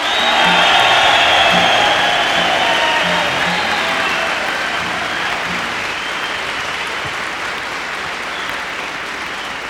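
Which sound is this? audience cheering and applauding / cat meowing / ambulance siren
audience cheering and applauding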